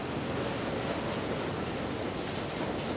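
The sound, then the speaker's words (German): A commuter subway train in Long Island City, New York, a few stops from Manhattan's Grand Central Terminal, rumbles steadily along with high, sustained metallic wheel squeals ringing over a dense, loud roar, continuous throughout. “Die meisten Pendler aber nehmen die U-Bahn.”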